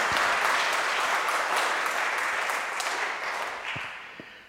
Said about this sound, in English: Bishop Stephen, thank you very much indeed. Shall we give Bishop Stephen a round of applause just to say thank you?